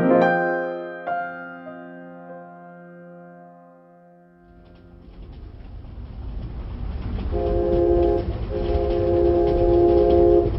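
A train horn blows a long, steady tone, then the heavy rumble of a train rolling along the rails builds and grows louder, with the horn sounding again over the noise. No one speaks.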